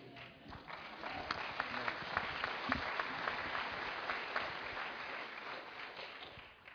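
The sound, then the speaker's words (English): A crowd applauds steadily as the speakers are introduced, a dense wash of many hands clapping at once with a few sharper individual claps standing out, sustained at an even level throughout. “Okay, whenever he was introducing us today and y'all were clapping, just to keep me humble,”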